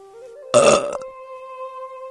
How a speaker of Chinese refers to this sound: 左边的头一边舔着嘴唇，一边打了一个大饱嗝，看样子啊，他是吃得够饱的了。